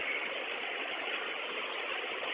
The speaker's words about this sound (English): Can you open your front door, kneel the bus, count to two, and then raise the bus? Copy. Bus is kneeled. 1, 2. Raising the bus.